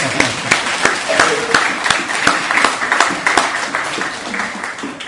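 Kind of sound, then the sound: crowd, applause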